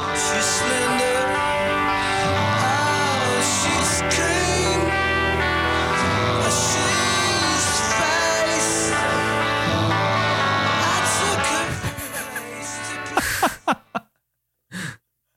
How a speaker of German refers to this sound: Ja, vor allen Dingen, das Schnarchen ist ja so laut. Man kann ja den eigentlichen Songtext gar nicht mehr verstehen.